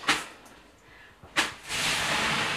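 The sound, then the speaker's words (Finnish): A sauna stove (kiuas) crackles in a sauna during the Kulttuuri Ykkönen program: two sharp cracks a second or so apart, then a steady, fairly loud sizzling hiss that carries on to the end, with no talking. “Nautitaan kiukaan natinasta täällä Kulttuuri Ykkösessä.”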